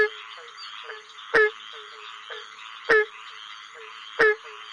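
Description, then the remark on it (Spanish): Three loud, sharp barking calls from a barking tree frog ring out at steady intervals, each a short percussive bark standing out over a continuous background chorus of softer frog and insect trills. “Aquí está, señoras y señores, la rana arborícola que ladra.”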